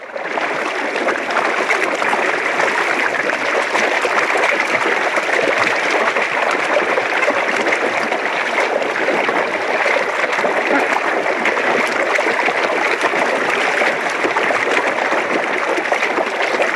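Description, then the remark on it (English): Royal penguins splash and plod awkwardly through relatively deep creek water, walking between rookery and ocean on Macquarie Island, recorded 3 December 1974; a dense, continuous churn of splashing and sloshing that holds steady at a fairly loud level throughout, with no voices. “Splashing noises penguins walk up and down creek from rookery to ocean.”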